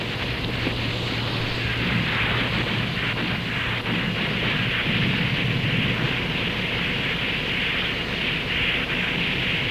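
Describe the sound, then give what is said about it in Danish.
A dense, continuous roar of naval battle, with artillery fire and explosions blurring into a steady, loud wall of rumbling noise and a low droning hum early on, no speech, as the warship Queen Mary, under heavy fire from the Derfflinger and Seydlitz, is hit and goes down after violent explosions. “Efter voldsomme eksplosioner kæmper den derfor ned.”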